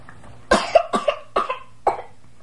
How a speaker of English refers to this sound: You don't have a cough, do you? I have a cold.